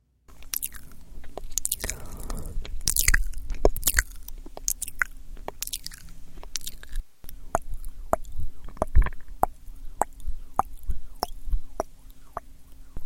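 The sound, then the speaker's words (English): Wet, sticky ASMR mouth clicks and smacking sounds made by a woman, sharp and close-miked, popping out in quick irregular bursts over a faint steady hum, with no speech. “we call it in radio, we call it wet voices. These are voices with a lot of clicking.”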